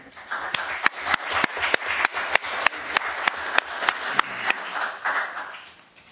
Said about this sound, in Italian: Un applauso.